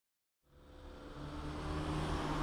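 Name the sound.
street traffic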